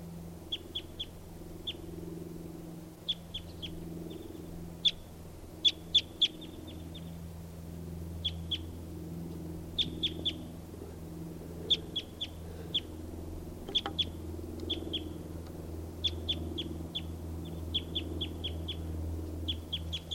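Birds call repeatedly in quick, high-pitched chirps, often in short clusters of two or three, over a steady low rumble like traffic. No one speaks.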